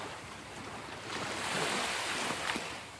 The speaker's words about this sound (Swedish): Hör du havets brus? Ja, men det gör jag faktiskt.